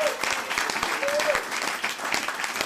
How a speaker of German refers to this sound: Und dafür gibt's heute den Applaus der Woche.